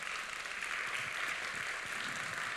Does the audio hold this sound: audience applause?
yes